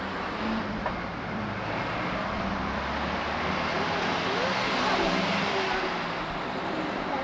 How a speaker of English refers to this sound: No, you must hold my hand, darling. It's too dangerous. Too many cars. What? Too many cars.